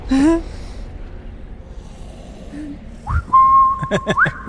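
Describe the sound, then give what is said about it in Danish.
A person whistles: a quick rising slide into a steady held note for about a second, ending in another upward swoop, with a short vocal snort at the start and breathy noises. “Mens jeg fløjter.”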